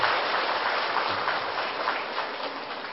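Applause from the audience of a Buddhist retreat at Tường Vân monastery, welcoming a venerable monk lecturer: a dense, steady wash of many hands clapping at fairly even loudness for about three seconds, with no voices heard over it.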